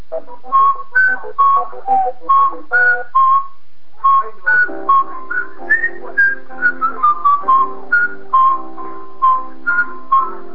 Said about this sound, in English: Do I get extra points for whistling the theme?